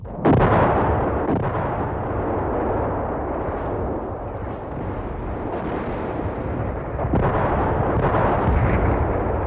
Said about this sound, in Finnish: kun vihollisen puolelta kuului jatkuva lähtölaukausten kumina. Muutama sekunti heillä oli aikaa toivoa, ettei keskitys sattuisi heidän kohdalleen, kunnes ensimmäiset räjähdykset ilmaisivat tämän toivon turhaksi.